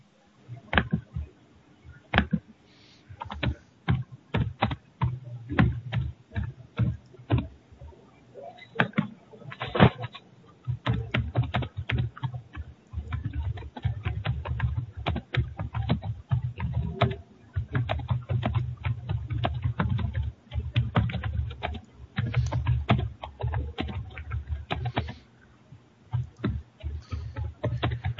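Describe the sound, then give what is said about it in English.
Rapid clacking of computer keyboard keys as a person types in irregular bursts that run the whole time, with a low droning hum underneath and no talking. “That's me typing.”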